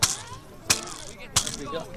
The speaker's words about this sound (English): specialised footballs that have got bells inside, so although they're blind or visually impaired, the balls and the bell rattle so they're able to hear it